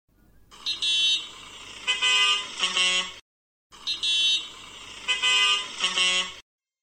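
Loud car horn honking in a quick series of blasts at shifting pitches, the same honking pattern repeated twice with a brief silent gap between, no voices.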